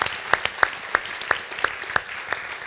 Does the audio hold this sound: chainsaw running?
no